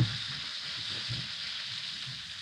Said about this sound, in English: Drop an Alka-Seltzer tablet or two into a glass of water like this. Now, listen to it fizz.